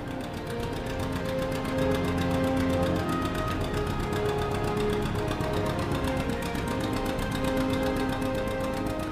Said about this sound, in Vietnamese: Trời tối mù, chỉ nghe có cái tiếng máy nổ phành phạch ở trong đêm.